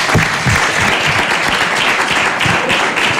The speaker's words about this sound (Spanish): Esto no era fácil, ¿eh? Merece un aplauso, ¿eh? No era nada fácil, ¿eh?